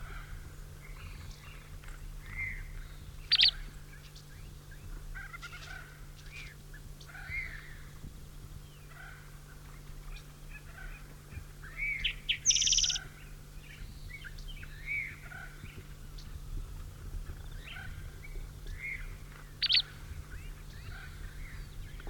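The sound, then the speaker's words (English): Short, sharp chip calls from a bird carrying no material in its mouth sound off at irregular intervals, a few loud high chips standing out among fainter ones, over a steady low hum with no talking. “These chips are the bird with out, nothing material.”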